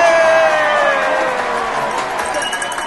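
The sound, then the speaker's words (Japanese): An audience applauding at the start of the second half of a show, after a commercial break: a steady wash of crowd noise with cheering and what sounds like clapping, loud and continuous for about three seconds, fading slightly toward the end with no speech over it. “はい、皆さん拍手。”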